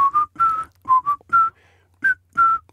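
A person whistles a short, bouncy pop melody in clear choppy phrases of sustained pitched notes with brief gaps between them, no voices alongside.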